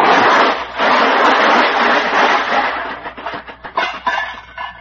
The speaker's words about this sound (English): Just look at that car. It's all smashed to bits. Yeah. And I just nudged that pole with it and it fell apart.